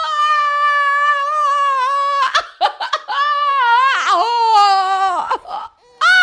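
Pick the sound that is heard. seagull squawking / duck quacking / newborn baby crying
newborn baby crying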